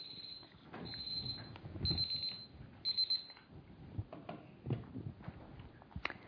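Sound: alarm going off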